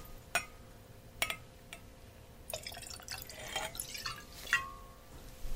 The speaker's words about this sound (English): Now, this is what Scotch on the Rocks should look like. Put a little bit of Macallan over some whiskey stones, which have been chilled to exactly 27 degrees.